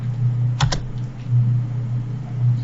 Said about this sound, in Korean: 컨트롤 V 해주시면 동선이 만들어지게 되는데 한번 스페이스바를 눌러보겠습니다.